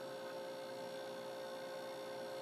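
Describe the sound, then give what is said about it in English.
A steady, low motor hum from an ice maker drones on unchanged after its fan stops, quiet and continuous, with faint tonal whine layered over it and no voices or other sounds. “But the fan stopped, but it still sounds like a refrigerator.”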